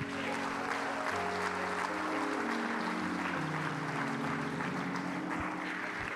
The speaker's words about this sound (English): Somebody clap your hands one more time.